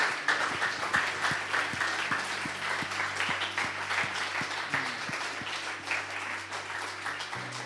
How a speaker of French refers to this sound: Si Jésus est là, il est digne d'un applaudissement encore plus fort. Seigneur, on veut t'applaudir.